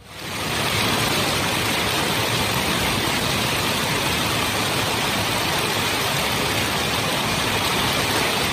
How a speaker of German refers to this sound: So, das war keine neue Klimaanlage. Das war so der heftigste, ja, wie Graupelschauer, kann man das noch so nennen? Also es war schöne Hagelkörnchen, ey.